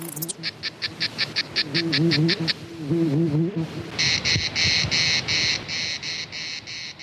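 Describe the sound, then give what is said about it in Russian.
Mediterranean crickets chirp in steady, evenly spaced pulses, a high shrill trill that grows louder and denser in the second half, with a warbling lower call wavering beneath early on; used in the radio composition "Monsieur Fabre's Pets". “К средиземноморским насекомым и радиотворчеству Фрэнка мы еще вернемся.”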